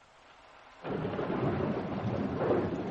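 nature, rain

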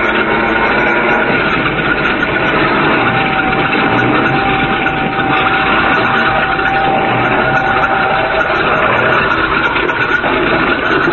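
vehicle, light airplane engine

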